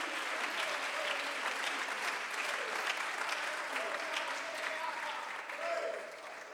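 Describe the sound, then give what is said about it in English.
A church audience at a bilingual English-Spanish service claps steadily and continuously in praise to God, a dense wash of applause for several seconds, with faint voices mixed in beneath the clapping. “Come on, somebody clap your hands and give alguien God praise.”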